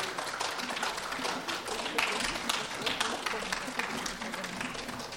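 An audience applauds steadily after a song, a dense, continuous patter of many hands clapping at an even level for several seconds, with faint crowd murmur beneath.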